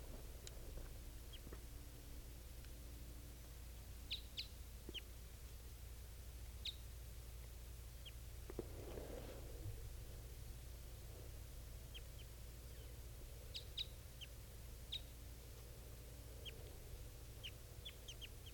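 Two birds calling with short, high, thin chirps that come in scattered clusters, faint over a steady low hum. There is no talking.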